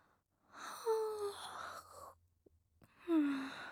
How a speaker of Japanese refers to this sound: 仕事中にあくびとは感心しないわね。